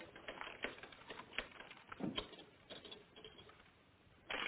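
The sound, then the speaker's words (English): Typewriter keys clack in a quick, uneven run of sharp strikes, moderately loud, with a slightly louder burst at the very end and no voices. “On the typewriter, on the typewriter.”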